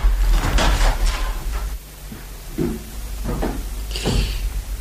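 Doors are shut one after another, a series of wooden knocks and sliding thuds spaced a second or so apart over a low background rumble, with no talking.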